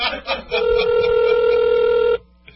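A call to a home telephone rings once on the line: a single long, steady electronic buzz lasting under two seconds after a few short clicks, then it cuts off into near silence with no answer and no answering machine.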